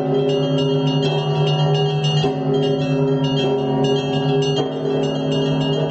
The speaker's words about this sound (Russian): Звучит исторический ансамбль колоколов Свято-Данилова монастыря. И теперь этот звон станет неотъемлемой частью московского звукового ландшафта.